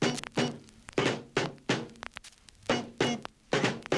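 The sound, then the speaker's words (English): A drum rhythm of about ten sharp, punchy hits in a loose, syncopated groove, each strike with a low thud body and bright crack, played alone with no talking. “Oh, I love playing the drums. I can do the grooviest rhythms.”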